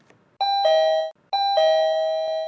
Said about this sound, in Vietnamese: Ông Hân, bà Hoan đang đôi co với cái chuyện hùn vốn cho bà Lan vay và không tham gia bảo hiểm xã hội tự nguyện tiếp, thì có tiếng chuông gọi cửa.